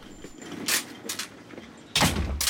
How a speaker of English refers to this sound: Eddie leaves the office and Chrissy closes the door, looking annoyed.